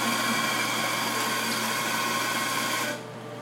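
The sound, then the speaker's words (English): A coffee grinder at Resonance Café whirs loudly and steadily with a harsh, buzzing motor drone for about three seconds, then cuts off abruptly, leaving a faint low hum. “Many readings were ambiently disrupted by the coffee grinder.”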